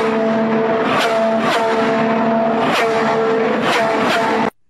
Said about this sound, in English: These are not sound effects from Star Wars. No. These are Indy cars. Man. Listen how fast that is.